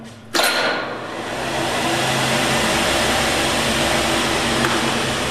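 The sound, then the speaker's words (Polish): The electric motor of an air-raid shelter ventilator rated at 300 cubic metres of air per hour, which can also be hand-cranked, switches on with a sudden click and settles into a steady, loud whooshing whir with a low hum underneath. It runs continuously without any talk. “Wydajność tego urządzenia to jest 300 metrów sześciennych powietrza na godzinę. Ale jest tutaj też działający silnik elektryczny, więc jeżeli tylko jest prąd w sieci, to kręcić tą korbą nie trzeba.”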